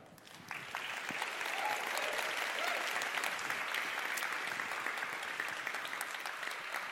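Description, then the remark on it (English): A crowd at a CEA event breaks into steady applause for the CEA staff, swelling within the first half second and holding at full strength, a dense wash of many hands clapping without letup until the end. “Round of applause for the full CEA staff.”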